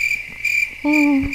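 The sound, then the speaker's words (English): A steady, high-pitched cricket chirp drones continuously throughout, joined near the end by a low hooting tone, with no voices present. “Yeah, where's the crickets?”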